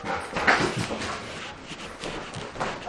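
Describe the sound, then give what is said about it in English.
Dogs whimper and whine, with short high-pitched cries coming in a few bursts over soft shuffling and background noise. “Oh, the dogs got in.”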